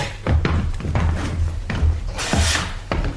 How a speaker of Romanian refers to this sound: Ia lumânarea și hai să încuiem ușa.